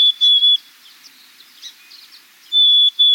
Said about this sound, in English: Let's listen again to the black-capped chickadee. Pretty soon, you'll hear these chickadees begin to sing, a sound quite unlike their call.